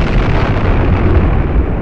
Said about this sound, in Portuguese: Um vulcão em erupção lá pela Fazenda Matinha. Ah, é? É, tá espalhando fogo para tudo quanto é lado.